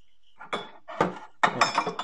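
Dishes clink and clatter in three quick bursts as a dishwasher is unloaded, bright ringing knocks of ceramic and glass with short pauses between, no voices.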